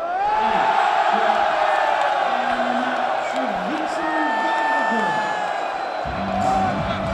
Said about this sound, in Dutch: Vincent van der Voort verslaat Nathan Espinel, top 10 speler van de wereld. Het publiek gaat helemaal los. En ik ben bijna niet meer veilig. Het bier vliegt alle kanten op.